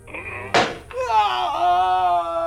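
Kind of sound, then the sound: impact, hammer strike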